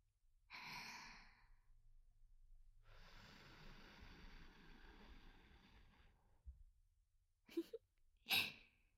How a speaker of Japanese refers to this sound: 吐息という形で風を届けるのも手段の一つです。どうですか？ まだなんとなくしか感じられない？